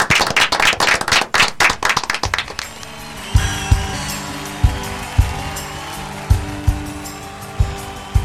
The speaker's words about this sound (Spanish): Ah, un aplauso, terminamos el programa.